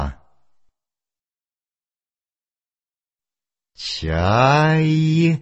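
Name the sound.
gull calls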